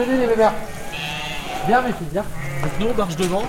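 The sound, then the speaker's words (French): Several ewes bleat in quavering, wavering calls, fairly loud, as they are called out of the sheepfold at a farm with a cheese dairy, overlapping with a person speaking briefly in the background. “Donc là, ça va faire le bruit d'un mouton.”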